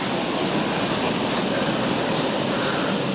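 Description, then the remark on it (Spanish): A train rumbles steadily at a village railway station with a dense, constant roar of wheels and engine noise that stays at an even, loud level throughout, with no voices. “Al día siguiente llega a la estación de tren de un pueblo.”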